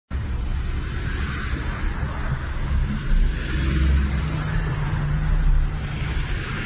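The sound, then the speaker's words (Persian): Dense, steady roar of heavy road traffic on Hosseini al-Hashemi Boulevard in Iran, where camels have caused heavy traffic, with deep engine rumble and a couple of louder swells as large vehicles pass; no one speaks. “بلوار حسینی الهاشمی، شترهایی که معلوم نیست از کجا اومدن و ترافیک شدید ایجاد کردن و این تعداد شتر و درختایی که سهم شترها میشه،”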